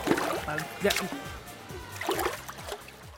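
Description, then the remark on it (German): Water splashes and sloshes in short bursts over about three seconds, fairly loud, while a voice sounds through it as someone accidentally ducks briefly under the water. “da ist der gute Gunsbert kurz unter Wasser getaucht aus Versehen”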